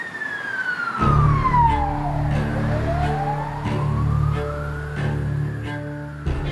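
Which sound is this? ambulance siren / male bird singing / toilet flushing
ambulance siren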